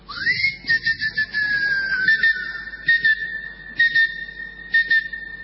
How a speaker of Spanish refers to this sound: Se están fabricando en los Estados Unidos unos llaveros que chiflan. Sí. Responden al chiflido. Claro. Uno entonces chifla. Vos los perdés y los podés buscar chiflando. Te pones a chiflar y el llavero te contesta.